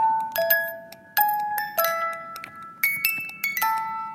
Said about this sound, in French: C'est une toute petite boîte à musique et qui va faire ça. Vous me dites si vous reconnaissez l'air.